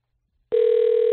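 A telephone ringing tone from a call dialed live on the Chet Buchanan Show radio programme cuts in after a brief silence: a single steady, mid-pitched electronic hum that holds loud and unbroken to the end, with no voices.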